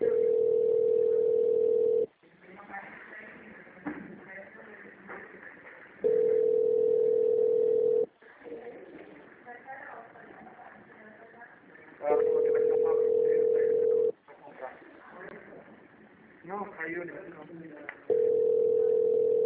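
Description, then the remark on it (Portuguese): A steady, mid-pitched telephone tone after a dropped phone call sounds in two-second bursts that repeat every six seconds, four times in all, with muffled talking filling the gaps between them. “Não, caiu a ligação.”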